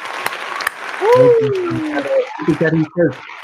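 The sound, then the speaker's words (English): A canned crowd cheer triggered from a soundboard button plays for a few seconds: a wash of clapping and crowd noise with rising whoops and shouts, loud, like a triggered sound effect. “Where's the cheering button?”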